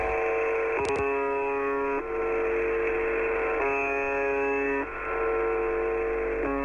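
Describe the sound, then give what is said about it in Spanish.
A harsh, steady droning buzz with a rich stack of harmonics over a hiss of radio static, from the VB76 shortwave station's broadcast of 25 July 2016. The tone repeats in long sustained stretches separated by brief breaks, with a short click early on. “Se la llama también el timbre o el zumbador porque la mayor parte del tiempo emite solamente este ruido.”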